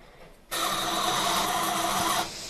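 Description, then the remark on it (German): An espresso machine kicks in abruptly with a loud, steady mechanical whirring buzz that holds for almost two seconds, then cuts back to a low hum. “Da ist es die Kaffeemaschine jetzt.”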